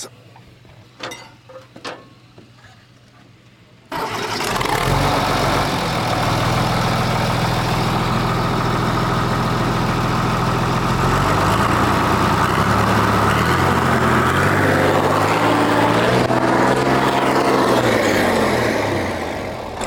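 A few clicks and clunks, then a large engine with a non-original exhaust pipe roars to life at about four seconds, settling into a loud, deep idle with a steady rumble, then revving upward in rising, harmonic-rich surges.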